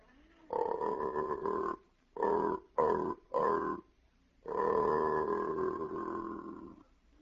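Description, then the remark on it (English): An aardvark mating call played backwards and slowed down: a low, drawn-out groaning call in several bursts, a long moan, three short choppy grunts, then another long sustained groan. “That was the same mating call, only played backwards and slowed down.”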